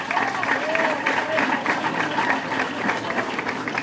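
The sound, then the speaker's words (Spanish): An audience claps steadily for several seconds, a dense, even patter of many hands with faint voices mixed in underneath, applauding the work of the table 2 group after their presentation. “Si pueden aplaudir el trabajo de los compañeros, se los agradecería.”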